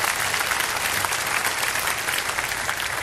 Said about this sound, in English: Church, why don't we clap our hands for all of those who have joined us through television and through the web.